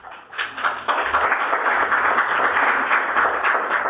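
A crowd applauds steadily for a speaker's 16 years of abstinence in recovery from compulsive eating, many hands clapping into a dense, continuous patter that swells in the first second and then holds at an even, loud level throughout.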